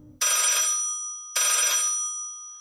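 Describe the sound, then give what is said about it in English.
A telephone at an office cubicle rings twice, loud, each ring a bright trilling burst of about a second separated by a short pause. “5 minutes, 10 minutes, 30 years pass, and the phone rings.”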